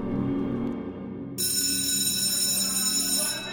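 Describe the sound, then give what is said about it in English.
A loud electric school bell starts suddenly partway through and rings continuously to the end, a bright, buzzing metallic clang over a low background hum. “Finally, the bell rings.”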